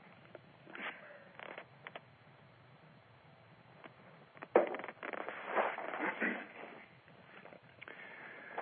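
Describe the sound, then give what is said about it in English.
A person clears their throat a few times in rough, raspy bursts, after several seconds of quiet shuffling and faint rustles. “I've got to clear my throat.”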